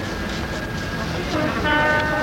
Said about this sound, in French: L'homme arrache le sac de voyage des mains du bijoutier et ils sortent de la pièce en courant vers la sortie. Sonnerie retentit.